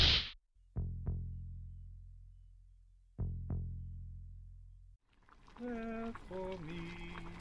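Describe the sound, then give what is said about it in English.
Two pairs of sharp, gunshot-like electric jolts from a new copper device for heart attacks used on a patient, each crack trailing into a deep, slowly fading hum, followed by a voice speaking at the end. “Jesus, what was that? Sounded like a gunshot.”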